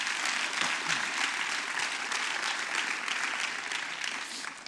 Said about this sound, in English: They, guys, y'all did an amazing job. Y'all made me very proud. Why don't we give them one more hand clap?